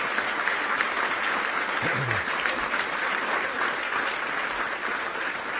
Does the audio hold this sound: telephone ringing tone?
no